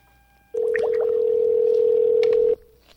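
A telephone tone sounds while a phone call is being placed: a loud, steady, low-pitched hum that holds for about two seconds and then cuts off abruptly, with no one speaking.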